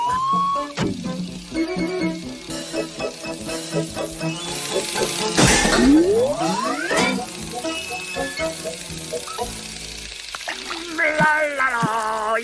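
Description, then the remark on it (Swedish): Continuous hissing rush of a splashing waterfall, steady, with a bright rising whistle midway and squeaky, meow-like tones and playful voices layered over the water. “Se upp för vattenfallet.”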